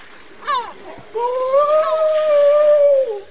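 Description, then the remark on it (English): Grey seals of a large Baltic Sea colony, about 20 resting on the beach, recorded with a parabolic microphone, vocalize: a brief falling grunt-like cry, then a long, drawn-out moaning call that holds steady for about two seconds, loud and tonal, with no talking. “They just were grunting and snoring and made some different kind of sounds.”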